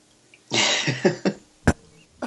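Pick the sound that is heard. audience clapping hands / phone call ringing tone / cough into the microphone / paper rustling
cough into the microphone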